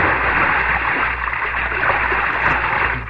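A loud, sustained rush of splashing, churning water fills the whole moment as a person dives from a boat into a river after a girl, plunging in and thrashing, with no voices.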